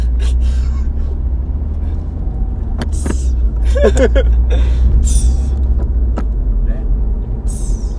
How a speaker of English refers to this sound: You hear that blow off valve?